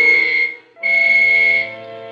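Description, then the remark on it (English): Two loud, steady whistle blasts signalling all clear before an explosive blast sound in succession, a shorter one followed by a longer one with a brief gap between, then trail off into a lingering ring. No one speaks. “I waited for the whistles to signal all clear.”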